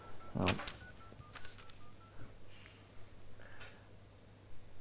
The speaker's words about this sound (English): Let me call it because you'll definitely get a better reception from this other phone.